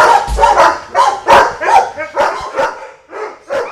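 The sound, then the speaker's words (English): A chorus of dogs up for adoption barking over one another in a dog adoption area with rows of metal cages, loud, with sharp overlapping yaps and barks filling every moment and the occasional higher yip, echoing. “The dogs all start barking at once when we walk inside.”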